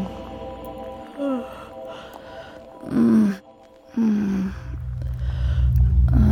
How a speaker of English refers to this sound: I think she's breathing.